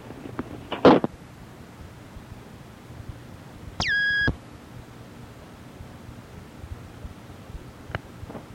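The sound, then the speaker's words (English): A single sustained electronic beep, a steady tone lasting about half a second, with a few faint clicks and knocks before and after in otherwise quiet surroundings. “But I'm not getting a second beep. I just get one real long one.”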